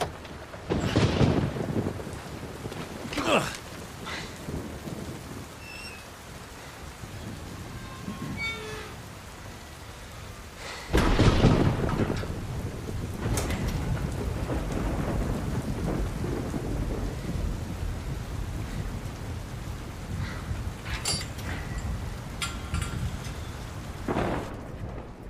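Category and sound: nature, heavy rain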